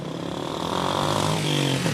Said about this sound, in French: Dans cette station-service du centre-ville de Brazzaville, la file de voitures s'étend sur des dizaines de mètres. Les chauffeurs attendent depuis de longues heures, comme ce père de 3 enfants.